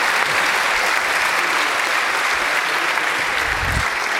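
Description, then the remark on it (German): An audience applauds the absent team behind the Viabundus poster on 15th-century roads, a dense wash of many hands clapping steadily at an even, fairly loud level with no pauses and no voices standing out. “Trotzdem Applaus, ja.”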